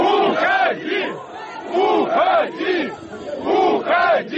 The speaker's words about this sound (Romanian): În timp ce Lukashenko a încercat să răspundă întrebărilor, muncitorii i-au strigat: pleacă!